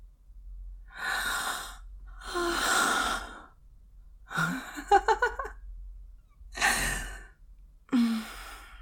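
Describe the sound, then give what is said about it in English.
A person gasps several times in a row, with sharp, breathy intakes and exhalations, one of them catching into a brief voiced whimper. There is no speech. “Even after all the times we've had sex, you still gasp like an innocent little virgin boy.”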